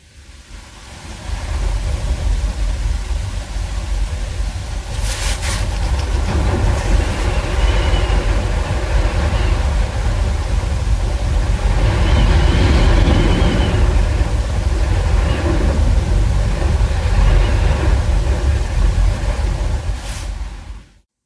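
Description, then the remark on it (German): Strong wind roars steadily for about twenty seconds, recorded from inside a room, a dense low rumble with rising and falling gusts and occasional sharp rattles, no voices. “Und ich habe versucht, aus unserem Zimmer diesen Wind aufzunehmen.”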